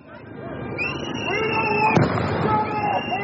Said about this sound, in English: Started throwing what seemed like flash grenades. There were loud bangs and we ran away.